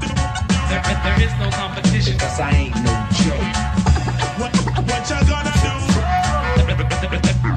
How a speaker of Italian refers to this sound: ecco gli scratch, gli scratch, facciamo sentire gli scratch.